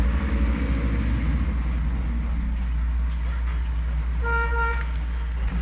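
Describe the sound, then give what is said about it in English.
A steady low engine rumble idles throughout, then a garbage truck's horn gives one short, loud honk near the end. “Is that someone drove that? The garbage truck looks like.”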